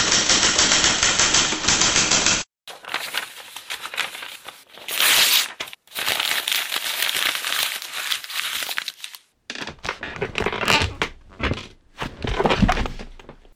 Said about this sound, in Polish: Przerywa, znowu pisze kilka słów i rozwala się na krześle.